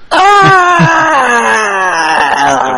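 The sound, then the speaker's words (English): Several voices let out a sustained, loud theatrical scream that slides into drawn-out moaning and groaning, a mock Mortal Kombat-style fatality death wail held for about three seconds with no words spoken. “You should all scream now because I'm punching your heads of your bodies.”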